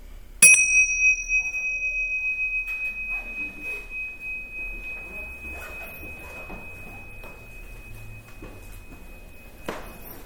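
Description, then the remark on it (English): A single meditation bell is struck once, clear, to end a short meditation, then rings on with a long, slowly fading tone while soft room noise and faint rustling continue underneath. “and with the bell, we can end this short, very short meditation.”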